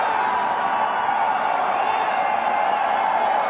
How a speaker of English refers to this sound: Paul also told today's crowd, if elected, he would do away with the Federal Reserve and the IRS. That drew quite a few cheers.